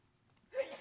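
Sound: sneeze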